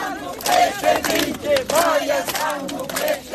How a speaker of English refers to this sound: Maya Sandu ended her re-election campaign among close supporters, cheered and clapped all the way through the streets with shouts of president.